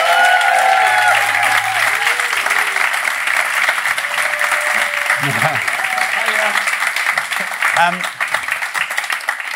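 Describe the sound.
A loud, sustained round of applause from an audience, dense steady clapping filling the whole stretch, with some cheering voices and murmurs mixed in.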